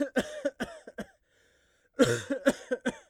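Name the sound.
cough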